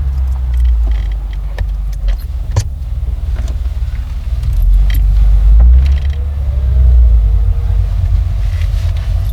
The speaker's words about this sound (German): Dann setzte sich der Wagen in Bewegung.